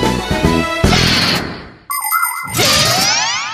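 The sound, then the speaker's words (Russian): A mirror drops with a jumbled clatter of bumps and bright, ringing metallic tones, a sudden jolt, then wobbling, zinging sweeps that settle without any glass shattering. No one speaks. “Фух, вроде не разбилось. Давай его обратно поставим.”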